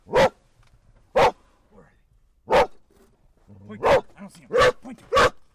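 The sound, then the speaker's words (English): Wren, a search dog with Alaska Sea Dogs, barks sharply six times in irregular spacing, loud, the last few barks coming quicker, on a snowy search obstacle course with a junked minivan, with a low murmur of background noise in the later part. “Dog handler Marcy Larson says Wren is one of Alaska Sea Dog's best.”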